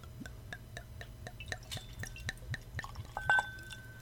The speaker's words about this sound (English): Well, let me give it a little pour.